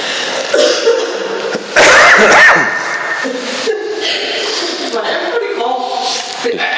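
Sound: coughing and spluttering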